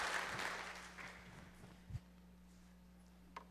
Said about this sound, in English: Okay, very good, guys. Let's give our soil testers a round of applause.